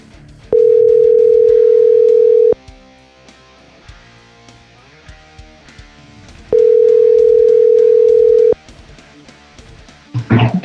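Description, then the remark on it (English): A phone call to Darby Allen rings out: two long, steady ringback tones, each about two seconds, separated by a pause of several seconds, with faint background music underneath. “We're going to give Darby a call here in just a second, see what he's up to.”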